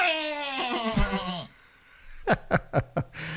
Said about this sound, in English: this goat is like real Boris Becker. Annoying and won't get out of my face.